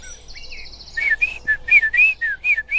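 A blackbird sings a run of clear, fluting, throaty whistled phrases, loud, after a brief high trill from another bird, with no talking.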